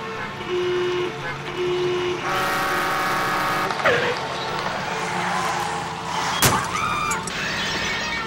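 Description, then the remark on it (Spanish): Busy traffic noise with honking horns and a sharp crash or shattering impact midway, followed by more horn toots over a steady rumble of vehicles. “El auto del elefante había chocado con el del rinoceronte y era imposible pasar por ahí.”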